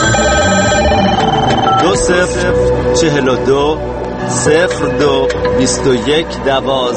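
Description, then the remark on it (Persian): A telephone ringing effect for the Radio Farda voicemail number trills repeatedly and loudly, layered over a dense, busy musical bed with sweeping tones and no pause through the whole stretch. “شماره تلفن پیام گیر رادیو فردا”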